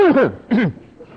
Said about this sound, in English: Pardon me. Everybody could cough with me that time, all right?